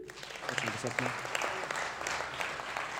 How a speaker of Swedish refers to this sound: Kan vi ge honom en applåd?